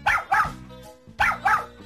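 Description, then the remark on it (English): A small dog barks four times, sharp yappy barks in two quick pairs separated by a short pause, fairly loud with no one talking. “Little dog, let him go, please.”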